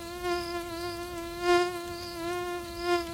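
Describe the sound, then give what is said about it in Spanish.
A mosquito whines steadily, its thin high-pitched drone swelling and fading in loudness every second or so as it hovers. No voices. “El paludismo, también conocido como malaria, es una infección provocada por un parásito que se transmite a través de la picadura de un mosquito, pero no cualquier mosquito.”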